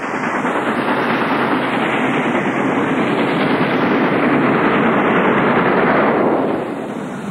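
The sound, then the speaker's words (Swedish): A train rumbles steadily along railway tracks, a loud, dense clatter of wheels on rails lasting several seconds before easing slightly at the end, with no voices. “Militären fick hålla igång järnvägstrafiken.”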